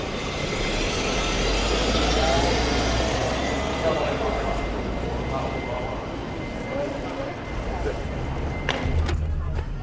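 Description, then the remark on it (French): A taxi's engine runs with a steady low rumble and road noise throughout as it drives in Taiwan, with indistinct voices faintly in the background and a few clicks near the end. “Allez, on va prendre les bagages et on se dirige vers les taxis.”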